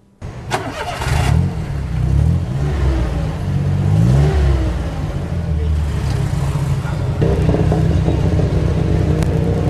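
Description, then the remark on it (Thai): A three-wheeled tuk-tuk's small engine rumbles low and steadily, its pitch rising and wavering as it pulls away from beside the Big C Saphan Khwai shopping mall, taken out for the day's work, with a busy traffic hum underneath and a voice faintly in the mix. “เมื่อรถสามล้อเคลื่อนตัวออกไปจากข้างห้างบิ๊กซีสะพานควาย”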